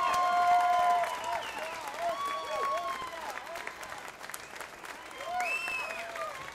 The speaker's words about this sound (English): Thank you so much. Love you. Give a big round of applause to Billy, please.